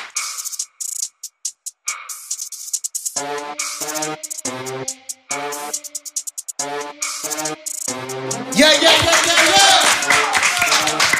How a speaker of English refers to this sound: Y'all clap it up for Jamal Crawford. Appreciate it.